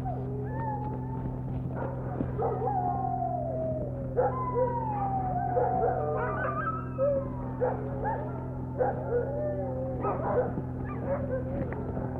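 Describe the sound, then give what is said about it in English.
A pack of sled dogs yips, whines and howls together in a continuous overlapping chorus, rising and falling pitches layered over a steady low mechanical hum. “we're going to try to get the dogs brought out on Arctic Circle”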